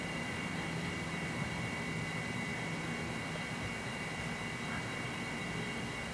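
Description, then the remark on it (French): A steady, even airplane drone from far off, a broad rushing roar with faint high whining tones running through it, holding constant for several seconds with no voices. “essayer d'écouter le bruit des avions, des bruits de train, des bruits des voitures, de très loin.”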